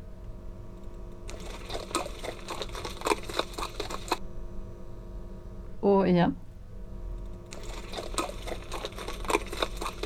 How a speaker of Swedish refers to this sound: Det där tror jag är en häst som skrittar. Det är det. Det är rätt.